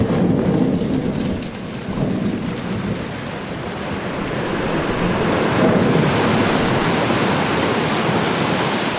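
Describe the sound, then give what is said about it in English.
A ship's hull crashing and grinding through sea ice: a loud, continuous low rumble layered with dense crackling and crunching noise that swells slightly toward the end, with no voices. “Even the sound of the ice is the sound of us, of our ship, crashing into it.”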